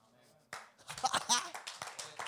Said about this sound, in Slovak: Keď tlieskate Ježišovi, dajte mu poriadny aplauz.